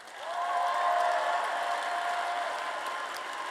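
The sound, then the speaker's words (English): A crowd at a Literary Arts evening event applauds steadily for a few seconds, a dense, crackling wash of clapping with a few higher whoops riding on top early on, holding loud throughout before easing slightly at the end. “Man, round of applause for tonight.”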